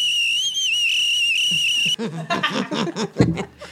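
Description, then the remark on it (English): A person whistles one loud, sustained, slightly wavering high note for about two seconds, then it stops abruptly and chuckling and laughter follow. “Sometimes I just have to whistle.”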